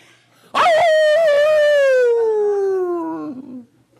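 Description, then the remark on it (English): A man in a graveyard around midnight lets out one long, loud wolf-like howl, starting high and sliding steadily downward for about three seconds before breaking off, with no other sounds around it. “And about midnight, he's howling like a wolf.”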